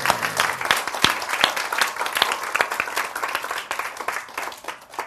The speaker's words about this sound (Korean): 박수 한번 칩시다.